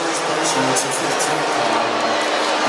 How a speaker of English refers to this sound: Crossover by Steph. And Ntilikina helped him down to the floor and a foul. The crowd is not agreeing with that call.